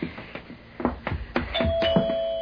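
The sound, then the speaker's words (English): A front doorbell rings with a bright, sustained electric tone that holds steady to the end, preceded by a run of soft, rhythmic thumps. “The front door at this hour?”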